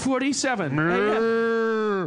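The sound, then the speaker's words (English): A single long, loud cow moo, rising briefly and then holding a steady, droning tone for about two seconds before cutting off. No talking. “Not going to worry about it. Got a cow catcher.”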